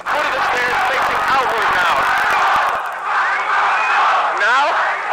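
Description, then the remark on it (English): A loud crowd of demonstrators and spectators in Harvard Yard shouts and yells together in a dense, continuous roar as police push demonstrators out at the doors, with individual cries rising above the din, spectators shouting "Nazi must go," and a rough, chaotic texture throughout. “Now the people who were spectators before are shouting, "Nazi must go."”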